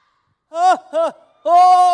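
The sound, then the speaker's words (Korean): An audience of fans shouts the name of a singer together to call the singer onto the stage. The shout is loud, with two short calls followed by a longer, drawn-out final syllable. “이거 소리가 조금 작아서 … 씨가 안 나오는 것 같아요. 다시 한번 크게 한번 외쳐볼까요?”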